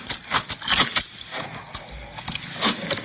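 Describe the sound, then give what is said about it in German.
Noisy chewing of broccoli: wet, crunchy bites in an irregular rhythm, a dozen or so sharp crackling bursts over a few seconds, with no talking. “So, jetzt gibt's gerade Brokkoli.”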